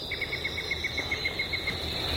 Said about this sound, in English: All those different notes, you know, tweet, toot, toot, toot, toot, toot, toot, yank, yank. That's all the same bird. That's the yellow-breasted chat, and that is one of my favorites of this time of the year.